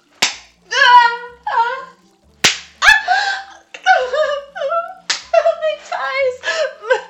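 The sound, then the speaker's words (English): Three sharp whip lashes crack across bare breasts a couple of seconds apart in a garden, each followed by a drawn-out, wavering cry from a voice, with whimpering cries filling the gaps between strikes. “Master, your whips fire across my tits.”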